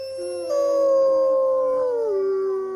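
Several wolfdogs howl together in reply to a man's wolf howl, in long, sustained, layered tones that slowly glide downward, loud, with no talking over them.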